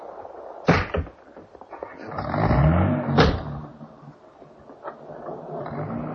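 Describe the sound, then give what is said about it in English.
A car engine starts with a couple of sharp mechanical clunks, revs up in a rising rumble and pulls away, the sound settling into a steady lower hum as it drives off. “Get back in the car, darling.”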